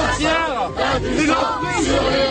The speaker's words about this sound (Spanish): Y esto que escuchan es la protesta de los inmigrantes en Francia, en el campo de Calais. Reclaman más protección tras la mayor tragedia migratoria jamás documentada en el Canal de la Mancha.